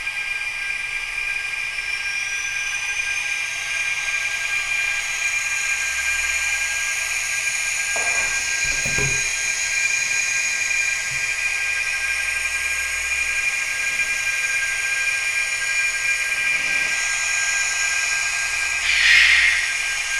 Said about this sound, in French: Le bruit du ventilo.